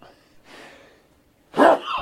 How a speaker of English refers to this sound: Yeah. Got a cold. Bless you. Been sneezing all morning.